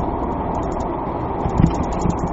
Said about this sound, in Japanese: まあ相変わらずその車ということでの振動音は、ご容赦ください。